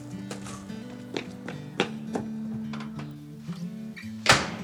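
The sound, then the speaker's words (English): A loud house door slams shut near the end as a boy dashes in for supper, preceded by several lighter knocks and clunks of him coming in, with steady music playing underneath throughout. “what have I told you about slamming the door?”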